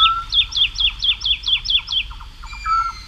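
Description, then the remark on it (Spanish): A woodlark sings in flight, hanging in the air, a quick, liquid series of about eight repeated descending notes, followed by a brief higher whistle, clear over a faint low background rumble, around 5 a.m. on a full-moon night as dawn breaks over the fields of Daimiel. “pero a estas horas, hacia las 5, 5 y pico de la mañana, una noche de luna llena, en el cielo, colgada en el aire, hay cantando una totobía, la alondra de bosque.”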